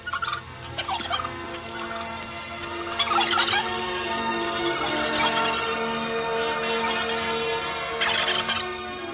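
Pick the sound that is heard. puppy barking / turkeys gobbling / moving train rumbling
turkeys gobbling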